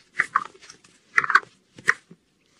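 A group of capybaras calls back and forth in three quick bursts of squeaky whistles, grunts and short bark-like yelps, with brief pauses between and no talking.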